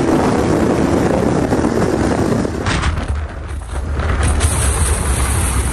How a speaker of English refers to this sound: And as we listen there to the sounds of the storm, I'm joined from Tampa by Dr. Athena Masson, meteorologist and hurricane specialist. And it really sounds bad with the noise coming through there, Athena.